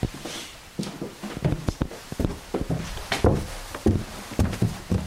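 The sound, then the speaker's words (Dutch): Footsteps thud up a staircase inside a house, roughly a dozen heavy steps in an uneven rhythm with no talking. “We gaan naar boven, we gaan de trap op.”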